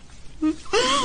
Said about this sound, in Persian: مادر جون، داری گریه میکنی چون من ازدواج نکردم؟